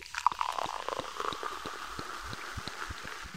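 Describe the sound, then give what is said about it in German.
Cola is poured into a glass with a bubbly, gurgling rush, followed by a steady fizz and scattered crackling pops of carbonation, fairly quiet, with no voices. “Ich finde das Cola lecker, aber auch ein bisschen sprudelig.”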